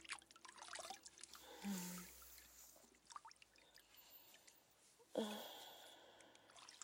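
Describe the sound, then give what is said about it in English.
A wet sponge with warm soapy water squishes and swishes in slow strokes over a person's arms and chest, with soft trickles and drips of water and a couple of louder wet sloshes. “Running the sponge over your arms and your chest.”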